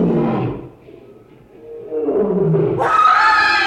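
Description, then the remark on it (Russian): A caged lion named Caesar roars as a man enters its cage: a deep, rumbling growl fades briefly, then a second roar swells upward and ends in a loud, harsh, drawn-out bellow. “Там, там лев! Максим Павлович вошел в клетку со львом!”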